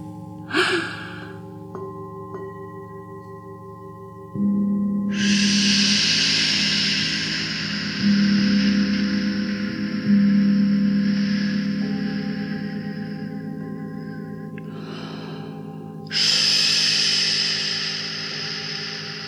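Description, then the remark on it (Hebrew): An eerie, echoing cave soundscape: a steady low drone with airy, breathy gusts that swell and fade several times, loud and enveloping, with no voices. “כמה יפה כאן במערה.”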